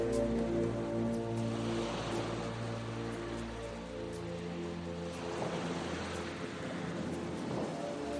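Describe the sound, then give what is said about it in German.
Ocean waves wash gently onto a beach, the surf swelling and receding in a slow, even rhythm, with a soft, sustained musical drone underneath. “Ich höre das stetige und wohltuende Geräusch der Wellen, die in ihrem wunderbar gleichmäßigen Rhythmus an den Strand spülen.”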